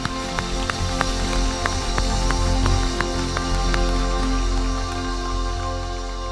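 audience applause

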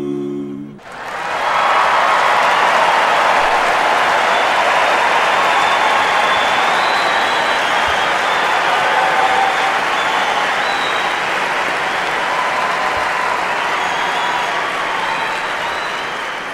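concert crowd applause

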